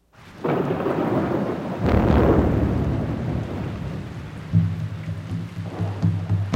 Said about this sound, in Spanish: Cuando el cielo se cubría de nubes y caía la tormenta, los Chaks, dioses de la lluvia, vertían el agua vaciándola de sus calabazas, sacudían, golpeaban sus hachas de piedra contra la tierra, produciendo un gran estruendo.